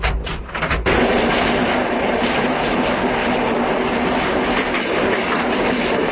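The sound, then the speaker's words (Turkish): A passenger train rolls steadily along the rails with a continuous, loud rumbling roar and faint rhythmic clatter of wheels, with no voices, after a brief burst of noise at the start. “Qatar ustası Əbülfət Abdullayev deyir ki, yola çıxmazdan əvvəl qatar tam yoxlamadan keçir.”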